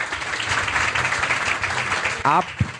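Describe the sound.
An audience applauds steadily for a few seconds, a dense patter of clapping hands that fills the room, with a brief voice breaking in near the end.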